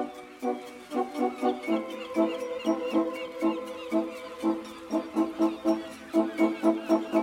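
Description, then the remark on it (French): Gulls squabble loudly on a roof overlooking the Crozon peninsula, their harsh, repeated cries overlapping in quick rhythmic bursts that barely pause. No one speaks. “Ah oui, là ça se bagarre un peu, c'est au toit de là que je m'y mouette, hein, en quelque sorte.”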